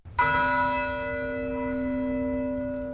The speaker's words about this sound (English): Bells rang out across the Virginia Tech campus today, 1 week to the day since a student gunman killed 32 students and teachers.